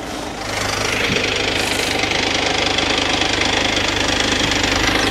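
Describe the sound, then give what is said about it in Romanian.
A heavy truck engine rumbles steadily with a low, knocking diesel throb as the truck rolls over a phone laid screen-down on a ceramic floor tile, rising in after a brief quieter start and holding a constant loud drone with no voices. “Telefonul față-spate este intact și o să-l pun și cu ecranul pe gresie și camionul să calce practic pe partea din spate, da?”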